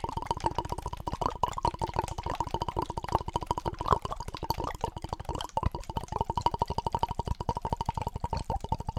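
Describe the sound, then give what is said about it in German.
Continuous, rapid burbling of water, like many small brooks at once, a dense run of tiny plops and gurgles at a steady, moderately loud level with no voices. “Das klingt nach vielen Bächlein.”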